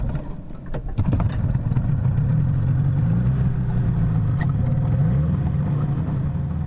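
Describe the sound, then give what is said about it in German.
A motorboat engine runs steadily on a ride out to a small island in Polynesia, with a low, droning hum that rises after a brief start, loud, with splashing water and wind noise over it and no talking. “Ich darf auf seinem Motorboot mitfahren auf seine eigene kleine Insel.”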